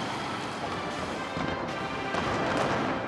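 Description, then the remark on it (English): Fireworks bursting in a spectacular April display in North Korea, a rapid, overlapping barrage, booms and crackles blending into a dense, continuous roar with a few sharper blasts standing out, fairly loud and steady throughout. “A spectacular fireworks display in April is rumoured to have been orchestrated by Kim Jong-il's favoured successor”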